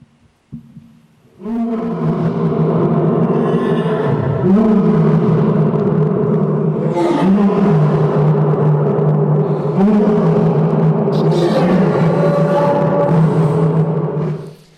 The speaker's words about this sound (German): So klingt das, wenn sich Löwen gut Nacht sagen. Warum tut er das? Wenn der Löwe brüllt, markiert er sein Revier.